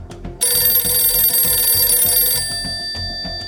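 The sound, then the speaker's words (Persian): A telephone rings, marking a call to Mosaddegh in Tehran, in one sustained, bright electronic burst lasting about two seconds, fairly loud, over a low rhythmic musical bed that continues after the ringing stops. “قبل از همه اعزام دوله آشتیانی که خانهش در بلوار نهر کرج بود، او به مصدق تلفن کرد.”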